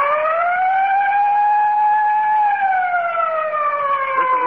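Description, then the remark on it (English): A loud, steady siren, the Texaco signal of the Fire Chief radio program, wails on its own, its pitch rising slightly and holding before sliding gradually downward. Strong, buzzy overtones run throughout, with no talking. “And remember, whenever you hear the siren and bell, think of Texaco.”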